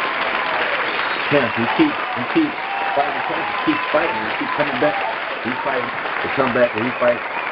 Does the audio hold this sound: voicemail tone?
no